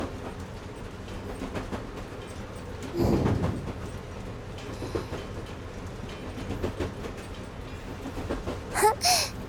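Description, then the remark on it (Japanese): Steady low rumble of a train running, heard from inside the cab, with rattling and clatter throughout, a louder thump near the start and a brief high squeal toward the end. “聞き慣れてるキャブ内の音でもこれだけ心地よく聞こえるんだもんね。”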